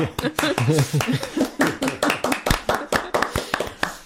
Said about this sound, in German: Hat einen absoluten Applaus verdient.